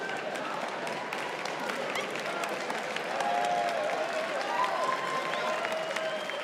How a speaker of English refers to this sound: You hear these testimonial claps?